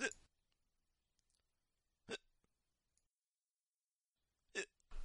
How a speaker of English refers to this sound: I have a horrible case of the hiccups.